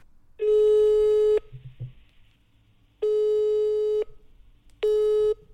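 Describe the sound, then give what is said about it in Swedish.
A telephone busy signal after a call to a mother is rejected: three steady, mid-pitched beeps of about a second each, separated by pauses, loud and clear with no one speaking over them. “Tryckte bort oss.”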